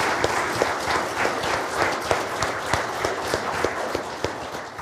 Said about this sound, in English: We always praise God for everything we do here, but how about a round of applause for the Lord and for the program he allowed us to have tonight?